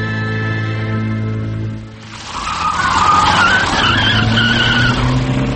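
A car engine hums steadily, then bursts into a loud screech of skidding tyres as it roars away, with the squeal wavering and the engine note climbing underneath.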